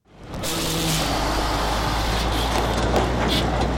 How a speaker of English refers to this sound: A dump truck rolls through a gate, headed towards a pile of rubble.